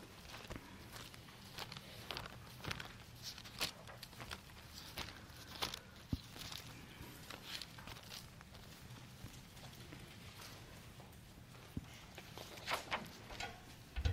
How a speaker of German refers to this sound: Muss ich jetzt nicht genieren, wenn es raschelt. Das ist schon recht. Aber es hört ja dann wieder auf.